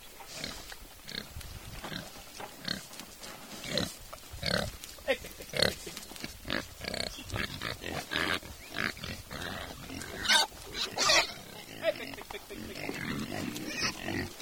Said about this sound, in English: was feeding a pen full of pigs, including a handful of extremely cute piglets.